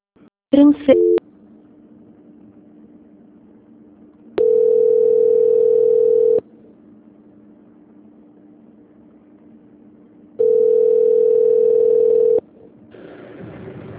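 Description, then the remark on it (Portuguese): A telephone ringing tone on the line while waiting because the phone lines are congested: two loud, steady mid-pitched tones, each about two seconds long, separated by a four-second pause over a low, constant line hum. “Só mais um momento que os telefones estão congestionados, tá?”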